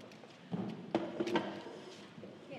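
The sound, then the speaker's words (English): A few short scraping knocks as a chair is shifted across a hard floor to in front of a table, three quick bursts in a quiet space, with no talking. “I wonder if you could move your chair just to in front of the table.”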